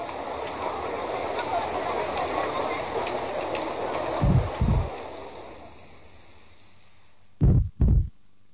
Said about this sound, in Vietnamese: Và bạn thân mến, hãy một lần nữa nhắm mắt lại, lắng nghe và cảm nhận nhịp tim rộn ràng